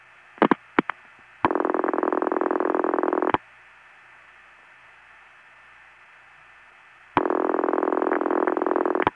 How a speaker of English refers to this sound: Now this is one of those toneless rings. It can be hard to get to know those, but listen again.